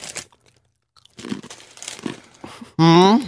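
A bag of Demeter brand crunchy pretzels crinkles and rustles as it is torn open, in irregular crackly bursts, followed by a short loud vocal sound at the end.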